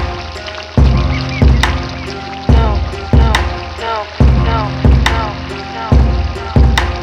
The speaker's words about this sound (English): What do you hear? I hear the water.